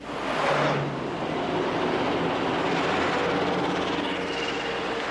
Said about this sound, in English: Mingling with the rush hour traffic, Red Army armored personnel carriers on the streets of Moscow this morning, heading to the Kremlin. They first moved in at 4 a.m., the first sign of the coup d'etat that removed Mikhail Gorbachev from power.